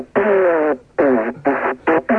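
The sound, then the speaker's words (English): A didgeridoo played down a phone line: five buzzy, droning blasts, the first long and the rest shorter and choppier, sounding thin and tinny with no talking. “I got a didgeridoo.”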